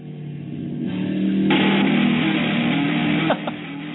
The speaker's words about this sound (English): Alright, the blender's on.